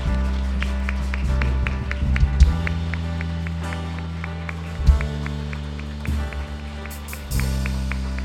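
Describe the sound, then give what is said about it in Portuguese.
A church audience claps for Jesus during a service in a steady, even rhythm, sharp crisp beats repeating about three times a second over a sustained low, droning keyboard pad, with a few heavier thumps along the way. “Glória a Deus, você pode aplaudir a Jesus por isso?”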